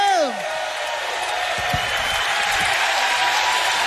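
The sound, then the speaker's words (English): An audience at Jazz Fest claps steadily with dense, sustained applause for keyboardist and vocalist Mr. Danny Williams from Lafayette, Louisiana, a brief falling tone fading out at the start, and scattered cheers mixed into the noisy clapping throughout. “Put your hands together for Mr. Danny Williams.”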